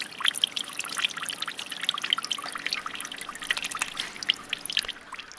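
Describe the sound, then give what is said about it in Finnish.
Water trickles steadily through concrete, a continuous bright, bubbly patter of tiny drips and splashes that holds at an even, moderate loudness throughout, with no one speaking. “Se tosiaan lorisee suoraan tuosta betonista läpi.”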